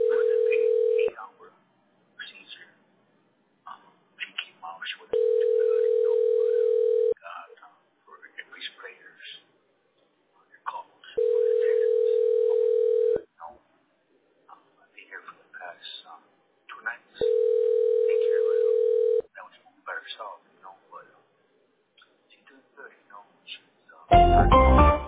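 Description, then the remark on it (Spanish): A telephone ringback tone of an unanswered call to a wireless customer rings four times with long pauses between rings, each a steady, even hum. Faint voices murmur underneath, and a short burst of noise ends it. “The wireless customer you are calling is not available. Please try again later.”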